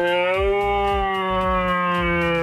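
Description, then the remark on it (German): A person imitates a young red deer stag's call: one long, steady, nasal tone rich in overtones, held throughout, with a rhythmic low throbbing pulsing underneath. “Ich mache es immer so, dass ich, wenn ich irgendwo unterwegs bin, den jungen Hirsch imitiere.”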